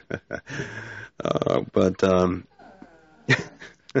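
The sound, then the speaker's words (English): A dog groans and grumbles in the background in a series of drawn-out, throaty vocalizations separated by short pauses, moderately loud, with a softer whiny stretch near the end. “I'm listening to one of the dogs groan in the background.”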